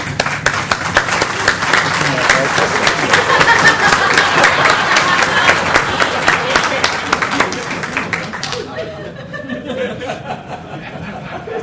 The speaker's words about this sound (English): For those listening to the audio, someone just walked into the room and received a big round of applause while it was being directed at our sponsors. It sort of confused the person.